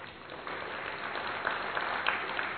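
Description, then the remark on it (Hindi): An audience at the opening session of a spiritual gathering applauds steadily, a dense wash of many hands clapping at once, holding a fairly even level throughout with a few sharper claps standing out, no voices heard. “ये आपकी तालियां आपका ही स्वागत कर रही है।”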